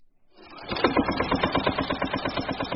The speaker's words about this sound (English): He rides a tractor through his grove of over 1,000 trees.